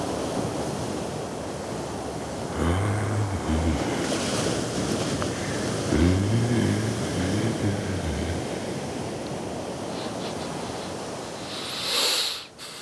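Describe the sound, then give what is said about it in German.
Ocean surf roars steadily with wind blowing over it, a couple of deeper rumbling surges swelling and fading, and a brief hiss near the end. No voices. “Nichts als das verdammte Meer.”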